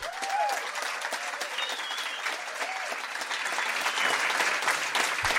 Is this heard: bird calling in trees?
no